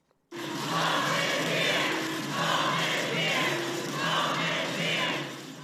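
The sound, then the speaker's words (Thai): Hundreds of young undocumented immigrants shout the chant "Home is here" in unison in front of the US Supreme Court in Washington, DC, the loud rhythmic phrases rising and falling in repeated waves that swell every second or so over a constant roar of voices. “ถ้าเสียงร้องตะโกน Home is here หรือบ้านของเราอยู่ที่นี่ดังกึกก้องไปทั่วบริเวณหน้าศาลฎีกาของสหรัฐในกรุงวอชิงตันดีซีนะคะเป็นเสียงของหนุ่มสาวหลายร้อยคนที่เข้าเมืองโดยไม่มีเอกสารถูกต้องหรือเรียกว่าเป็น Undocumented Immigrant”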